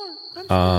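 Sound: crickets chirping at night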